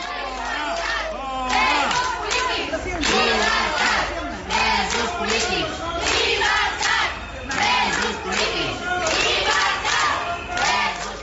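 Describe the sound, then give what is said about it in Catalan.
A loud crowd of medical staff at Hospital de Sant Pau in Barcelona shouts and chants in unison at visiting Spanish prime minister Pedro Sánchez, rhythmic bursts of many voices rising and falling continuously, with occasional whistles and no pauses. “I aquesta que senten és la rebuda que li ha fet el personal mèdic de l'Hospital de Sant Pau a Barcelona al president del govern Pedro Sánchez en la seva visita a Llampec, a la capital catalana.”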